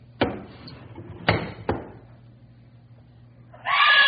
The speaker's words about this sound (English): what's the matter? Why'd you scream?